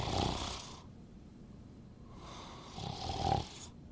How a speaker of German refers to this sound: Das ist Oma. Die schläft manchmal vor dem Fernseher ein und schnarcht.